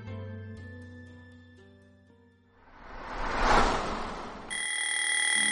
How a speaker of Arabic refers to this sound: كان نوما هادئا حتى دوى صوت المنبه.